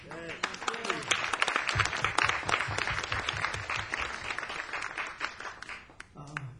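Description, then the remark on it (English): An audience at the Blue Note, during the last set of the last night of a week there, breaks into sustained, dense applause for themselves, many hands clapping steadily for several seconds, with a voice speaking briefly at the start and again as the clapping fades. “is our last set, our last night, and it's been a great week here at the Blue Note, so I'd like to give yourselves a round of applause.”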